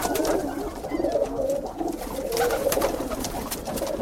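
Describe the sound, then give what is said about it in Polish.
Several pigeons from a neighbour's garden pigeon loft, a flock of over 50, coo steadily, their soft, throaty calls overlapping in a continuous murmur, with faint rustling and light background noise throughout. “I to tak, co człowiek potrzebuje zrobić w ogródku, no to wtedy od razu wypuszcza te gołębie.”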